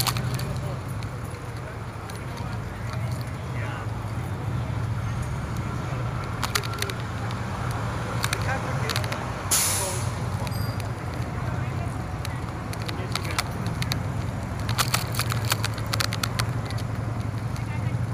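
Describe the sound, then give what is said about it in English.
Police motorcycles idle and move about at the very end of a ride, a steady low engine rumble holding throughout, with scattered sharp clicks and rattles and a brief hiss partway through. “We're at the very end of the ride, and there's a bunch of cops with motorcycles here. Which I don't mind, but it's a little noisy.”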